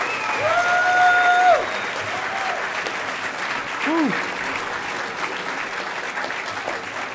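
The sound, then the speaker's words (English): An audience at the closing ceremonies of a conference applauds the network team steadily for several seconds, a dense wash of clapping with a few whistles and hoots rising above it early on and again midway. “Everybody, a round of applause for the network guys”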